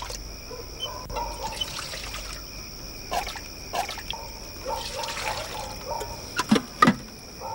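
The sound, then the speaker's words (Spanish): A milkman at a shop pours about 2 litres of milk into a customer's container in a steady trickling stream lasting several seconds, with a few sharper splashes and clinks toward the end. No one speaks. “El lechero llena el recipiente de Mundu.”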